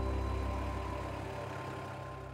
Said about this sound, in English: Here's one of the trucks pulling out.